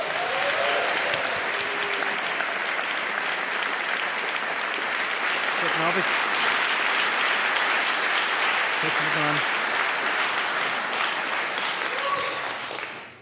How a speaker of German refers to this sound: Applaus für Renato Kaiser!